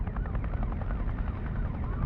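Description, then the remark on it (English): A helicopter thunders close by, its rotor blades thumping in a steady rapid pulse over a deep, continuous engine rumble that stays loud throughout. “I think I hear a chopper nearby.”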